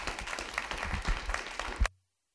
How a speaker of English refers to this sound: But if we can get one more round of applause for today's session, thank you so much.